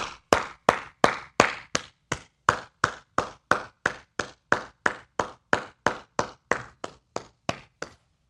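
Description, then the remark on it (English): Slow, steady clapping from an audience standing to applaud Senate candidate John Deaton's speech: about twenty sharp, crisp claps at an even rhythm of roughly two or three per second, each clap distinct with no overlap and no voices. “So, look, pardon me, stand and applaud.”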